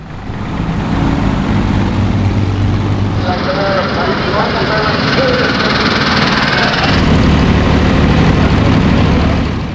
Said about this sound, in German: Ja, das Traktorrennen, mittlerweile eins der Highlights bei der Rennsport Reunion.